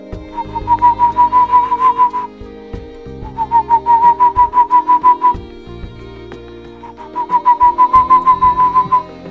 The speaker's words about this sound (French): La chouette de Tegmalm est en pleine conquête nuptiale. Le mâle cherche une compagne et chante toute la nuit son couplet d'amour. Une série de notes flûtées pour trouver l'âme sœur, celle qui réchauffera son cœur de petite chouette de montagne.